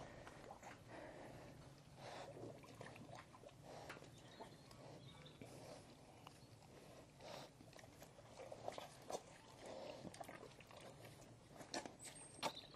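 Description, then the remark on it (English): Pigs snort and slurp water from a puddle on a cold day, with irregular bursts of snuffling and wet lapping sounds repeating throughout and no one speaking. “They're actually drinking out of a puddle. Do you hear them snorting?”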